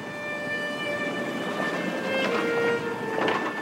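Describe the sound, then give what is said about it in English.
A train on an 8-hour ride from Moscow to the small town of Borovichi rolls steadily along the rails with a constant rumble, thin whining metallic tones riding on top and a few brief clanks near the end; no one speaks. “They took an 8-hour train ride from Moscow to an orphanage in the small town of Borovichi.”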